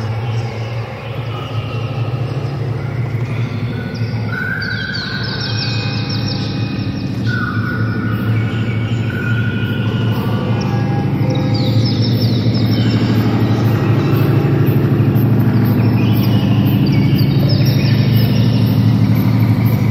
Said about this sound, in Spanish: El artista se ha propuesto precisamente evocar ese ambiente original con el canto de los pájaros.